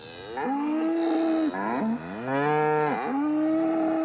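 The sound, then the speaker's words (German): Several cows of a herd standing on a pasture moo in long, drawn-out calls, one after another and overlapping, loud, with no one speaking. “Eine Herde Kühe steht auf einer Weide.”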